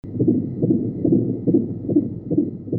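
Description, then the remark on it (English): A fast, steady fetal heartbeat, recorded on the father's cell phone while the baby was in the womb, pulses about twice a second through a muffled, whooshing low rumble. There is no talking, only the rhythmic swish-thump repeating. “heartbeat, captured a few months ago on her dad's cell phone.”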